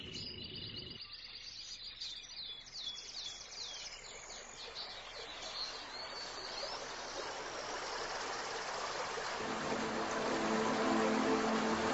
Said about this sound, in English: They build their nest in a safe place behind a small waterfall, far from prying eyes.